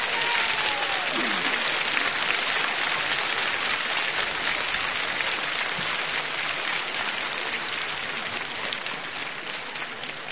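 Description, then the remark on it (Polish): Sustained warm applause from a large crowd gathered at a national sanctuary in Poland, greeting radio listeners and TV viewers in Poland and worldwide; a dense steady patter of many hands clapping at once, loud throughout and easing off slightly toward the end, with a faint voice briefly rising beneath it. “Oczywiście tym pozdrowieniem i tymi gorącymi oklaskami obejmujemy także wszystkich radiosłuchaczy i telewidzów w Polsce i na wszystkich kontynentach świata.”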